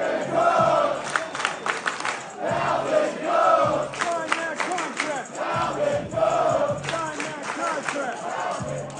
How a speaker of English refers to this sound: He was out at the Jet facility a few days ago on Sunday. The crowd was chanting his name when he walked on the field.